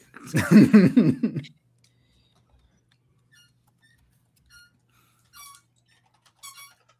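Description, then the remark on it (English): A dog squeaks its squeaky toy: a loud, rapid burst of squeaks, then quiet, followed by two short, faint squeaks a few seconds apart. Nobody is talking. “The dog does, in fact, have a squeaky toy right now.”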